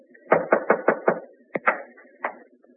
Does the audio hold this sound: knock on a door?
yes